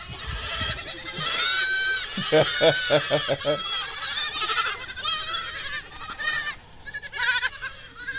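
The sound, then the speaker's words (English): A chorus of many baby goats bleating all around, overlapping high wavering cries with a quick pulsing run of bleats, continuing fairly loud throughout with some rustling in the background. “Oh, speaking of kids, I'm surrounded by baby goats. Oh, here they come.”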